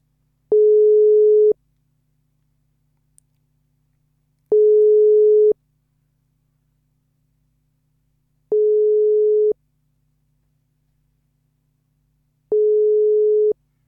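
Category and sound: signal or alarm, telephone ringing tone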